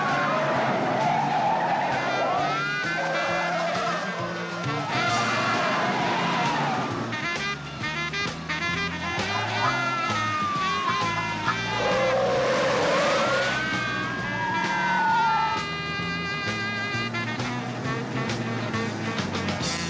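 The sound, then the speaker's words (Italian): A frantic car chase with tires screeching in long, rising and falling squeals over roaring engines, a siren-like wail weaving through the dense, loud action. “Come si sa, gli inseguimenti in macchina sono una delle cose più cinematografiche, uno degli elementi più cinematografici che esistono.”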